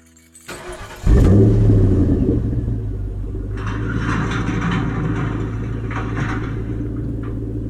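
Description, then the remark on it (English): A truck engine cranks and roars to life after a brief click on a cold day, then settles into a steady, deep rumble as the truck backs out of the driveway, with faint higher rattles over the drone. “As I backed my truck out of the driveway, I received a text message.”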